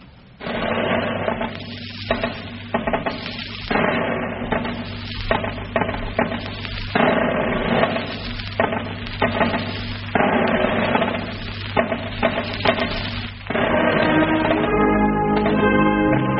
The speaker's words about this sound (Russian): Я позволил еще себе вот такую мы штуку сделали, наложили перевод Василия Андреевича Жуковского 1826 года, этого стихотворения Уланда, на вступление к старому исполнению марша «Добрый товарищ».